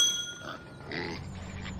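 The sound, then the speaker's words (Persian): A pig oinks and grunts in a few short, snuffly bursts inside a laboratory, with a faint clinking sound in the background and no one speaking. “بابا اون یه خوکه؟”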